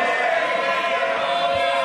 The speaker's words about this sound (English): The case was raised at Prime Minister's Question Time by Ed Miliband, who was first greeted by a loud, ironic cheer from the Conservatives.